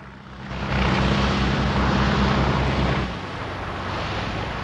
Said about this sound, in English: Billy Bob's boat speeds in and spins in a big circle, looking for Bond.